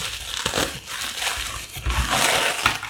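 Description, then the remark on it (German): Wrapping paper crinkles and rips in a few sharp bursts as a present, a notebook with a pen, is torn open, a continuous rustling texture between the tears, with no one talking. “Genau, er bekommt jetzt live ein Geschenk.”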